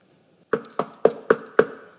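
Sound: knocking on wood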